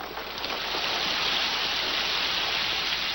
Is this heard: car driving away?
no